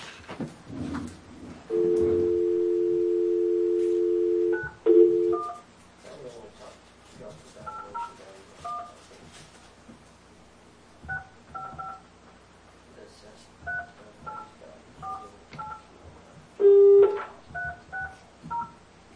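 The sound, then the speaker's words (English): A steady dial tone sounds briefly, followed by a series of short, evenly spaced keypad beeps as a number is punched in to call someone for a teleconference, ending with a louder tone, all clear. “Could we get him on the phone and ask him?”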